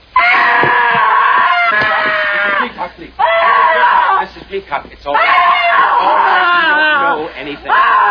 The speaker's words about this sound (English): I had to stop her from screaming.